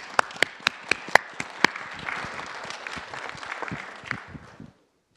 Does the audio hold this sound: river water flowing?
no